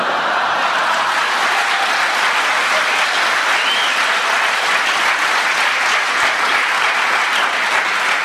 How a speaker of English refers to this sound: The audience applause tells me that they enjoyed your challenge, Clement, but it wasn't correct. I'll give you a bonus point because of the challenge that they enjoyed